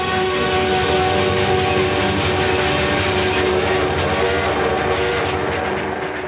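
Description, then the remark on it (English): A train starts to pull away from a station: a loud, steady mechanical rumble fills the scene, dense low-end roar with faint tonal hum layered over it, holding constant before easing slightly at the end. “Jerry steps onto the train as it starts to pull away.”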